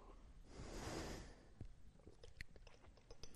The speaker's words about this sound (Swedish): Då behöver jag en liten klunk.